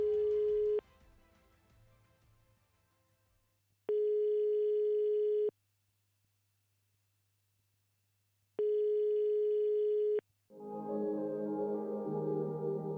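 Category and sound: signal or alarm, telephone call ringing tone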